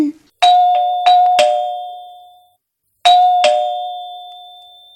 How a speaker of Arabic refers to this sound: أعزائنا، ذات يوم بعد أن سمعت الأم صوت الجرس جرس الباب،